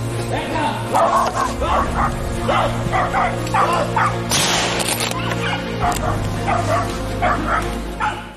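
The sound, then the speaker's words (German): A pack of hunting dogs barks and yelps in a rapid, overlapping chorus, loud, during a wild boar hunt, with a brief burst of rustling noise midway; no clear speech over it. “das muss eigentlich ein Kessel sein, weil die Hunde sind nicht heiß genug, aber irgendwie dachte er nicht wirklich, dass da eine Sau drin ist am Anfang”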